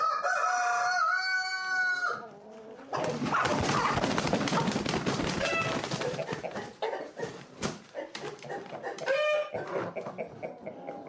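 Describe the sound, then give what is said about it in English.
A rooster crows loudly, then a burst of noisy flapping and clucking from chickens follows before a second, shorter crow rises near the end, as championship chickens are loaded into crates. “Put a cock and a hen into each crate just in case two cocks start fighting.”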